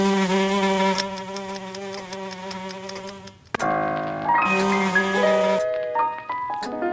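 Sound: fly buzzing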